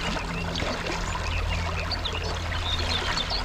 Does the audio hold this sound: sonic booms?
no